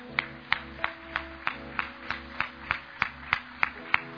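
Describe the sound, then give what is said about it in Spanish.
In a church at night, an audience gives steady, evenly spaced clapping in unison for all the mothers of the church, about three sharp claps per second, moderately loud over a low sustained hum, with no voices. “Por eso que en esta noche, en nuestra iglesia, queremos darle un fuerte aplauso a todas las mamás de la iglesia.”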